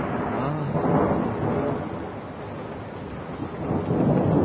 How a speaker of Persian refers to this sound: جنس تاریکی و ای بارونی که میباره تا مزرعه هامونه نابود کنه. ببین چه بارونیه.